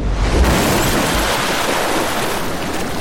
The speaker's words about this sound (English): I overcorrect to avoid the collision, the Packard screeching to the right. It sails through the metal railing, then plunges into the freezing water below.